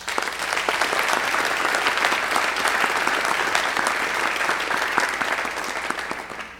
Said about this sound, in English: but I want you to recognize our senators and the exec and then those who are being elected as exec by giving them a round of applause.